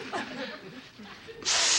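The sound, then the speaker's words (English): A person makes quiet, halting vocal sounds, then takes one loud, sharp sniff inward through the nose instead of blowing it out, near the end. “blow out, …, not in”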